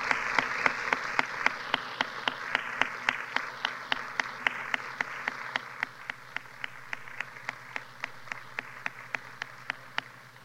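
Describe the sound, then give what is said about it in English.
An audience at Bethesda applauds the visitors during a morning service, steadily for about ten seconds, a dense wash of clapping with a sharp, evenly spaced beat running through it, easing slightly toward the end. No one speaks. “Just well, I'd like for all of us home folk just to give the visitors a big round of applause this morning, saying thank you for coming today.”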